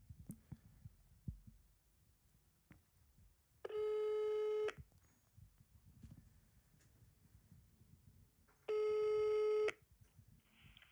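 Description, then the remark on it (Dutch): A telephone ringback tone sounds twice as a phone call is placed, each a steady, buzzy one-second tone separated by a long pause of quiet, over a faint low rumble with no talking. “Oké, ik ga hem bellen.”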